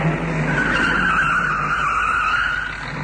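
A car brakes hard and its tires screech in a long, loud, continuous squeal that wavers slightly in pitch, with engine and road noise underneath and no talking.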